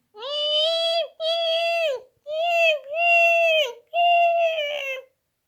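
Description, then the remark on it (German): A large seagull screeches five times in a row, each loud, drawn-out wailing call holding a high pitch and bending slightly downward at the end, with brief pauses between. “Da hört er von oben eine große Möwe.”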